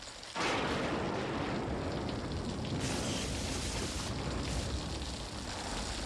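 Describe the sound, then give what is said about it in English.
Thunder breaks in abruptly after a brief quiet start, then rolls on as a loud, deep, continuous rumbling roar for several seconds, with no voices. “Uh-oh. Thunderstorm.”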